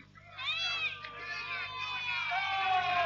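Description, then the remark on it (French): A dense crowd of voices at a festival shouting and jeering at Samson, several raised overlapping cries rising and falling over a steady low hum, fairly loud throughout. “Quelque temps plus tard, à l'occasion d'une fête, on présenta Samson à la foule pour se moquer de lui.”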